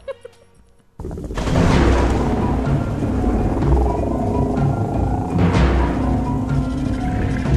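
After a brief quiet moment, a loud storm sets in: deep rolling thunder rumbles continuously beneath a steady hiss of heavy rain, filling the whole scene with no voices.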